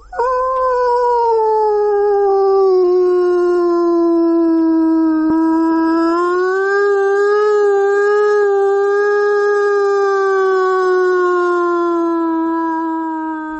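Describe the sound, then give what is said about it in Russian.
A long, sustained howl by a person imitating a wolf, held steadily for over ten seconds with a slowly wavering pitch, loud, with no other sounds around it. “Ваба – это вой, когда человек имитирует звук.”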